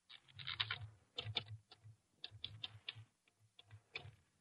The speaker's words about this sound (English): Now, let me hit that typewriter for a minute.